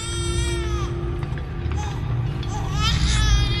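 A baby wails in repeated rising and falling cries, steady in loudness, over a low, continuous droning hum in the background.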